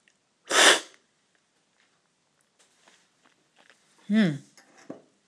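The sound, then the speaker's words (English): One loud, sharp slurp of Ethiopian Sidamo Grade 4 coffee from a cupping spoon during a coffee cupping, followed by soft clinks and rustles and a short voiced exhale near the end. “And I'm just going to cup and slurp for the first time again this Ethiopian Sidamo Grade 4.”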